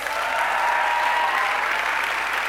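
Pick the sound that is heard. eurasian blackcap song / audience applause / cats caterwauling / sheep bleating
audience applause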